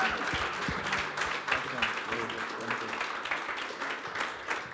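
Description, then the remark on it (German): A crowd applauds steadily on stage to welcome a speaker, a dense wash of many hands clapping at an even loudness for several seconds, with faint voices mixed into the noise. “Und lass ihm nochmal einen großen Applaus geben.”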